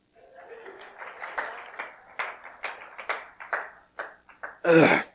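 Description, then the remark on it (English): Audience applause, a loose patter of claps that rises and thins unevenly over several seconds, ending with a short, louder burst of sound. “A round of applause.”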